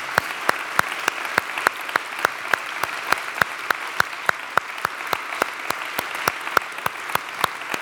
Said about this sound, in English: So standing up, clapping isn't doing anything.